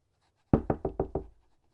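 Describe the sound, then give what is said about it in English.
Five quick, firm knocks on a wooden door in an even rhythm, fairly loud, each with a short hollow thud, followed by silence; late at night, nearly curfew. “Far too late for a student to come knocking unless there was blood involved.”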